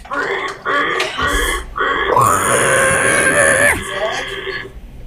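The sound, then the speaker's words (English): A man's voice, told to pull on a fence, imitates a pig, starting with a few short grunting squeals and then rising into one long, loud, strained squeal before trailing off. “Pull on that fence there, all right? And just squeal like a pig.”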